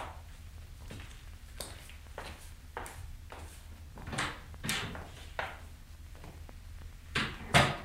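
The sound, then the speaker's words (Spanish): A wooden chair is carried over and set down, with a series of knocks and scrapes on the floor and a louder clunk near the end. “Alcánceme una silla y déjenos solos.”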